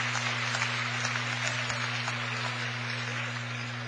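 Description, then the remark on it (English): Steady crowd applause at a Dort College basketball game against Central as player David Den Herter checks out of the game, a dense, even patter of many hands clapping at fairly low volume, with a constant low electrical hum running underneath and no voices. “So Den Herter checks out of the ballgame to a well-earned round of applause.”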